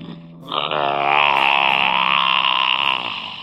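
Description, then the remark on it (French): One long, loud snore of a sleeping dinosaur, a deep and raspy rumbling breath that swells quickly, holds steady for about three seconds, then trails off. No voices are heard. “Waouh ! Énorme ce ronflement.”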